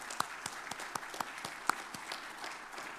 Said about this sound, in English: And let's go ahead and hand that out and give him a round of applause.